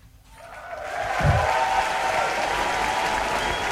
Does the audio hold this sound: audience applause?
yes